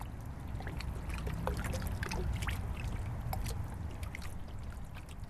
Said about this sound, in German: Leise plätschert dunkelgrünes Donauwasser an der Hülle der Eleonore.